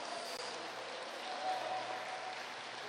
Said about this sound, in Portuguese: Quantos podem aplaudir esse nome maravilhoso?